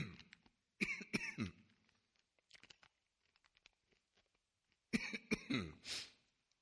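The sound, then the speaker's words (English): A man coughs and clears his throat in two loud bursts separated by a few seconds of quiet, with faint small mouth noises in between, while he has an intense cough drop in his mouth; no speech. “Excuse me. Give me just a moment with this intense cough drop.”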